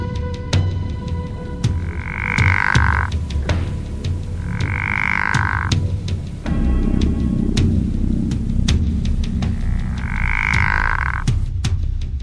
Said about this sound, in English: This, in turn, is lower than the voice of the pickerel frog, Ranapalestris, with a totally different sort of call.